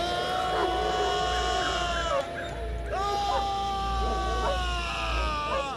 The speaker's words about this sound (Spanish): Los hombres dirigen la mirada hacia el lugar de donde proceden los alaridos.